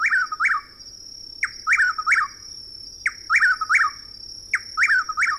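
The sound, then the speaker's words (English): A chuck-will's-widow calls loudly in a southeastern woodland in the evening, repeating its rhythmic three-part phrase four times at a steady pace, over a constant high-pitched insect drone and a faint low hum. “The same evening, in a southeastern woodland, we hear the loud calls of a chuckwill's widow.”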